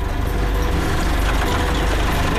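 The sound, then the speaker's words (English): A heavy diesel tractor engine idles steadily during farm safety training, a continuous low rumble with a faint rhythmic chug throughout, loud and unbroken with no voices. “And brake. And turn off the tractor.”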